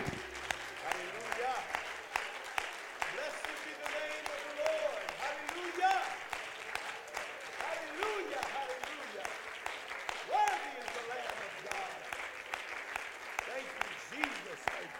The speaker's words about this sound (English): Would you clap your hands with all of your might before you're seated, and let's give God a great shout of praise.